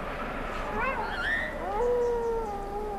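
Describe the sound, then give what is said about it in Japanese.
A single wolf howl rises in pitch, then stretches into a long, sustained tone that slowly glides downward, carrying clearly over a steady hiss of background noise. “ひえー、狼の声かな。”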